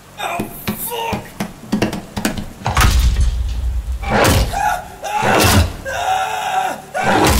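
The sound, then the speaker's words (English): A body slams hard into a metal dumpster amid a chaotic run of loud bangs and heavy thuds, with strained cries and grunts breaking through between the impacts. “Slammed against the dumpster, I'd lost my footing and fell pretty hard on my back, slamming my head against the concrete.”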